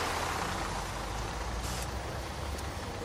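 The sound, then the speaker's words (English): A bus arrives with a heavy low engine drone and rumble, and a short hissing burst of air brakes cuts in midway, followed by a fainter hiss. “Aha! Here's the bus.”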